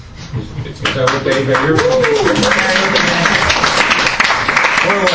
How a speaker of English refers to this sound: This side's got applause, this side not so much.